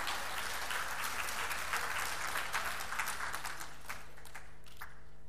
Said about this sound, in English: Give Liz a round of applause.